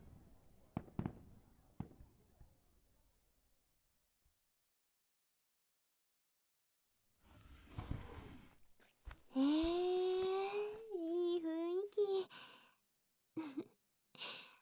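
fireworks exploding

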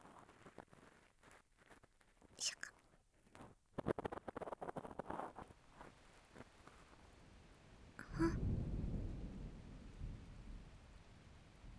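rain falling

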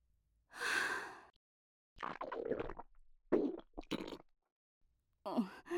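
stomach rumbling

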